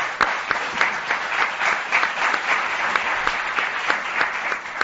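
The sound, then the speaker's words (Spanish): An audience applauds steadily, many hands clapping in a dense, even patter with sharper individual claps popping out, fairly loud and sustained throughout with no voices on top. “Vamos a dar un aplauso.”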